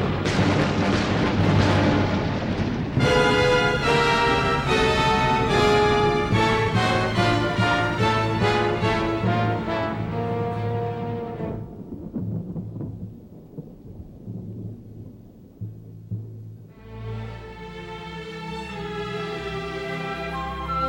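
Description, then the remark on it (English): Loud rumbling thunder crashes and rolls beneath dramatic, sweeping orchestral music, with a deep low roar that swells and fades before the strings and brass surge back in. “Strike lightning, strike the wabbit!”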